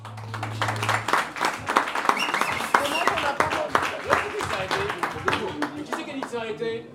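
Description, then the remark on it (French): An audience at a live broadcast show applauds with dense, steady clapping that lasts several seconds, mixed with crowd voices. A low hum sounds briefly at the start. “Je vous demande une nouvelle fois de l'applaudir.”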